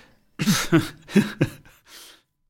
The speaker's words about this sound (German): Hast du gerade gelacht oder gehustet? Nein, der Husten hatte nichts damit zu tun. Das war einfach nur Mundtrockenheit, weil ich auf das Bier warte.